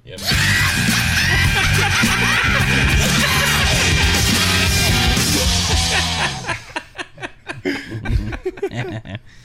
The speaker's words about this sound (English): Mix that yell with the corny joke yell.